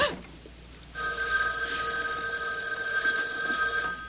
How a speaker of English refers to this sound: It was the house phone. Not my private line with the unlisted number. Only two people ever knew that number.